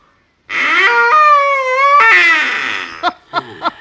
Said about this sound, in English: This is the deluxe model. Deluxe model big water call. Designed and toned for mallard, sprig, and canvasback.